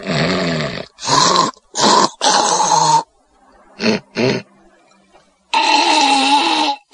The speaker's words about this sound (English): You got any clips or what? I do. I got a clip of the snoring scene. So I'll play that right now.